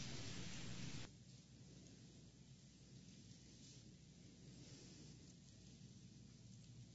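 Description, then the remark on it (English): A light rain shower hisses steadily, with a louder rush in the first second settling into a soft, even patter. No voices are heard. “Hey, it's raining.”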